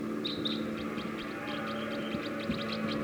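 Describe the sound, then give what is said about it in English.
Decoy birds calling in a rapid, steady series of short, high-pitched chirps, repeating over a constant low hum and rushing background noise, with no voices. “Decoys calling loud now.”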